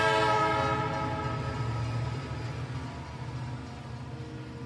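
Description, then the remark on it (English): An F subway train making express stops in Queens blares its horn in a long, sustained chord over the steady rumble of the moving train, loud, gradually easing off slightly toward the end. “Fantastic F train making express stops in Queens.”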